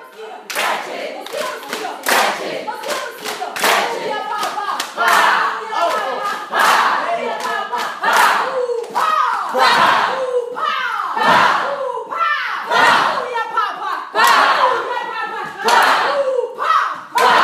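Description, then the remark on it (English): A group claps and slaps in a rapid, dense patter imitating the sound of rain, the sharp hand sounds swelling and thinning over time while voices shout and chatter underneath. “Yeah, this one is the sound of the rain that we usually teach.”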